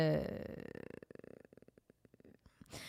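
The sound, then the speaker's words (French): A cat named Popoune purrs in a steady, rapid rumbling pulse, starting with a brief voiced, meow-like tone before settling into the rhythmic purr. “Check, mon chat.”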